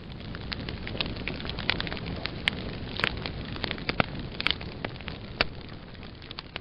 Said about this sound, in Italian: Il pino cominciò a bruciare e a divampare come una candela agitata dal vento.